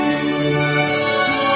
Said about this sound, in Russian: Есть звуки, которые нас радуют. Сигнализация автомобиля.